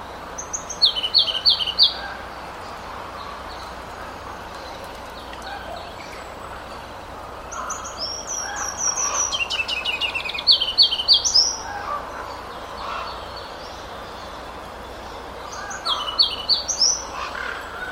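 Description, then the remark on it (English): A ruby-crowned kinglet sings in three bursts of high, rapid, rising-and-falling notes, each a couple of seconds long, separated by pauses, over a soft, steady outdoor background hiss; recorded at Totem Park in springtime. “Once again, that was a Ruby Crown Kinglet, that one recorded at Totem Park in the springtime.”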